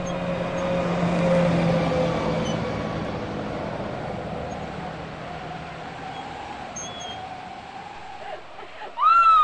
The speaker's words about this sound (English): Yet another truck passes down the highway.